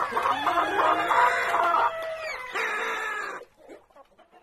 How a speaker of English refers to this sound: The car stops at a small compound of six or so huts. There are children playing and clean laundry hanging in the hot sun, and some persistently noisy chickens.